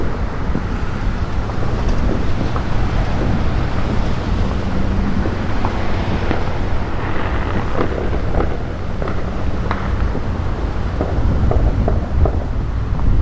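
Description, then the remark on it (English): A steady, heavy low rumble of thunder in the east fills the whole recording during a rainstorm, while scattered sharp pops and crackles of fireworks being let off break through, growing more frequent toward the end. “Thunder in the east and fireworks as well.”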